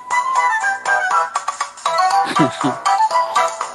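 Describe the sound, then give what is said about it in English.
A bright, bouncy tune from the mobile game Angry Birds plays loudly on its own, with chirpy electronic melody notes and a few swooping cartoonish effects, and no talking. “This is Angry Bird you're listening to.”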